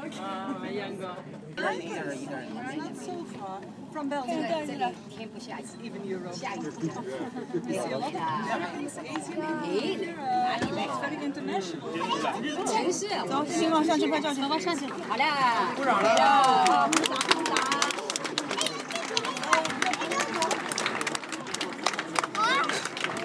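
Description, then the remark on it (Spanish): A large crowd chatters steadily at sunset in Oia, Santorini, a spot packed with people, then a burst of scattered clapping and cheering swells over the babble toward the end as people applaud the sunset. “Bueno, pues esos son los aplausos de el atardecer aquí en Santorini, en IA, escrito.”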